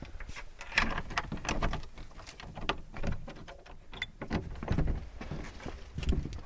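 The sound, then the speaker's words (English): A door is opened as people go inside, with a series of clunks, rattles and scrapes spread over several seconds, fairly quiet, with no voices. “Let's go in through the door.”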